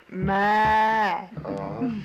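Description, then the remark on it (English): A young calf that has lost its mother moos loudly in a long, drawn-out, slightly wavering call lasting about a second, followed by a shorter, softer, rougher call. “Well, it's kind of a little baby moo.”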